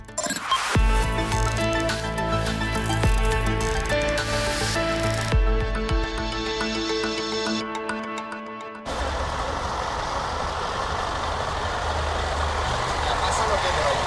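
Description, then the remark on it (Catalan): A water tanker truck supplying drinking water to residents of Monistrol de Montserrat: its engine drones with steady, layered tones that shift pitch a couple of times, then gives way to a loud, continuous rushing hiss like water being pumped or sprayed. “Doncs això que sentiu és un camió cisterna.”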